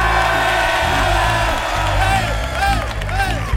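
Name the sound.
audience shouting and cheering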